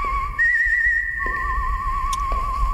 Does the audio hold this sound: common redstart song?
no